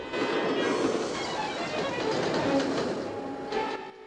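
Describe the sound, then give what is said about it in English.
An express train hurtles past, a loud, steady rush of rumbling wheels and wind noise that fills the whole moment before easing slightly at the end. “Suddenly, an express train hurtles along in the other direction.”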